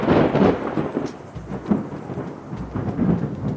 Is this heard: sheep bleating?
no